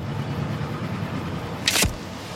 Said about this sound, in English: The white station wagon with its driver and passenger proceeds along the road.